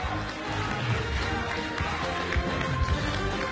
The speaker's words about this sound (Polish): Zapraszam serdecznie i proszę o ogromne brawa.